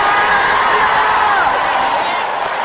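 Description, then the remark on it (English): A large church audience screams and cheers at full volume, a dense, sustained roar of excited voices and whoops that fills the whole moment without pause. “Come on, let the church scream.”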